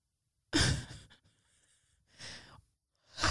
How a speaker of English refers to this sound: Sorry, did I had a yawn. Did you have to yawn so large?